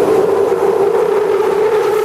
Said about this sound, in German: Eine Hassliebe verbindet die Londoner mit ihrer Tube, wie die U-Bahn hier heißt, benutzt von bis zu 5 Millionen Passagieren und Passagierinnen täglich, effizient, zuweilen aber auch unerträglich laut.